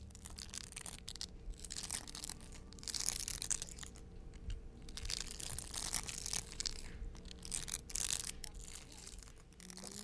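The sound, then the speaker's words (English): Larvae of Osuzumebachi hornets crunching in their nest: a steady, irregular crackle of tiny dry crunches and rustles, quiet but continuous, with brief denser bursts and no voices. “In their nest, they make this beautiful crunching sound.”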